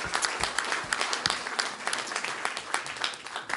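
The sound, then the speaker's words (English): A church audience claps together in praise of the Lord for answered prayers, steady, dense applause, many hands overlapping into a bright, crackling wash that holds at an even level for a few seconds with no voices. “Let's give him a hand clap of praise for answering these prayers.”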